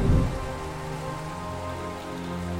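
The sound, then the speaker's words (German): Steady rain pours down at a restaurant with a large canopy, a constant hiss and patter, evenly loud for the whole moment, with a low tonal hum running underneath. “Unter dem großen Vordach des Restaurants suchten gerade zwei Mädchen Schutz vor dem Regen.”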